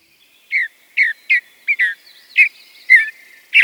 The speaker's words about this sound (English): The cheery song of this mountain bluebird is a sure sign of spring.